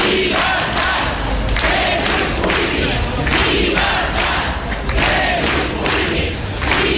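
A large crowd in the Baix Empordà chants protest slogans, including "llibertat presos polítics" (freedom for political prisoners), in loud, rhythmic bursts, voices swelling together in repeated shouted phrases with a steady cadence and no single speaker standing out.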